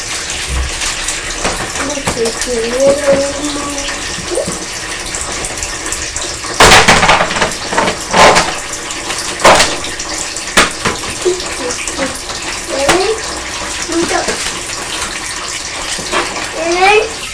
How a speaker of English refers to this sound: And he's just running the tap to get some water.